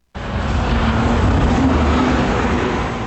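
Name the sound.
street traffic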